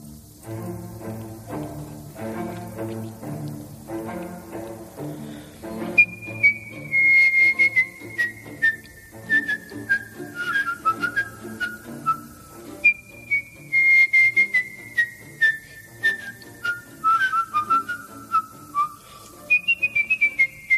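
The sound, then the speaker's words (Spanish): A clear melody from Bizet's opera Carmen, whistled live, rises over orchestral accompaniment, the bright piercing notes gliding and descending in expressive phrases; no one speaks. “Silbido en directo.”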